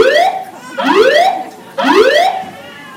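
A building alarm sounds loudly with repeated rising whoop tones, three sweeping upward in quick succession, each bright and harmonic-rich, with no voices present.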